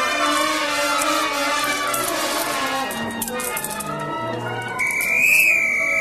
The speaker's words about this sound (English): Tommy blows the whistle and beats the drum.